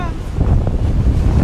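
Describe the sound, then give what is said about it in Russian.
A steady, loud rush of ocean surf rolling in, mixed with heavy wind buffeting the microphone, forming a continuous low roar without a distinct crash. “Вот еще одна волна идет хорошая.”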